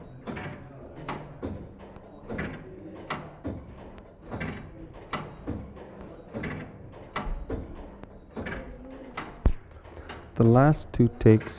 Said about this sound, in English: The last two clocks are both grandfather clocks with pendulums, standing 6 and 6.5 feet tall, respectively.